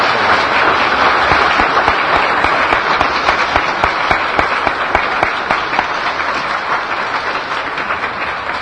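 Sustained applause from a large audience, dense and steady clapping that fills the whole stretch at fairly high volume, with no one speaking over it.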